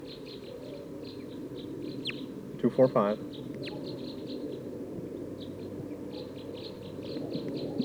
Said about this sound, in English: I think there's a flock of type 2 birds here in the top of this pine tree.